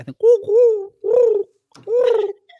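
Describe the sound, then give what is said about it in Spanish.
A person imitates a pigeon's cooing with three throaty, warbling coos, each about half a second long, with short pauses between them, while another person acts out a pigeon's puffed-up chest. “Tú haces el sonido y yo hago el acting.”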